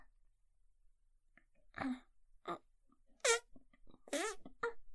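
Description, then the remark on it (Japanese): A voice imitates farting with a handful of short, buzzy, sputtering bursts spaced irregularly, fairly loud, with brief quiet gaps between them and no ordinary speech. “おなら出ちゃった、恥ずかしい。”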